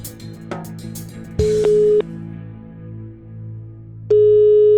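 A steady telephone tone sounds in long, even beeps over a low background hum, the ringing signal of a phone call to Spain waiting to connect, with a final beep still running at the end.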